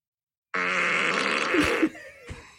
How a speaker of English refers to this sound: Try asking me for an angry fart. Or say random. What about a wet and nasty fart?